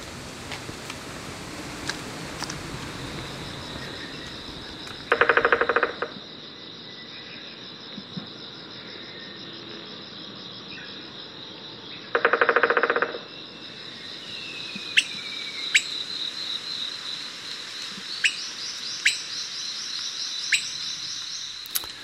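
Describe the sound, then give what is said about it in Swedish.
An Okinawa woodpecker: two short bursts of its drumming, a rapid rattling roll each, over a steady high insect drone, followed by a few of its sharp, scattered calls. “Ja, med hjälp av inspelningar från databasen scenokanto.org av Peter Bosman fick vi till slut höra Okinawa-spätten trumma och ropa också.”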